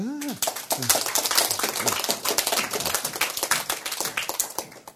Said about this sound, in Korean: 박수.